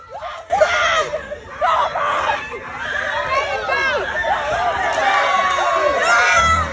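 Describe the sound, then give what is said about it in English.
A crowd of people shouts and jeers over one another at a fight outside a fast food restaurant, with excited yells and high-pitched cries rising throughout, loud, a chaotic continuous commotion. “As you can hear there, people nearby were shouting and jeering before someone eventually tried to break it up.”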